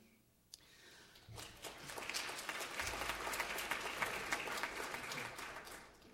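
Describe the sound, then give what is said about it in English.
Audience applause for a drummer from Tel Aviv, Israel, as he is introduced at a Shabbat concert. It swells from a quiet start into steady, dense clapping that holds at a moderate level for several seconds, with no voices over it. “he says it's okay to clap when I introduce him.”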